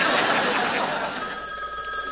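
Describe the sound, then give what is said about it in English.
A telephone rings with a bright, rapid electronic trill, fairly loud, ringing steadily on its own and then shifting to a sustained high tone near the end. “Answer the phone.”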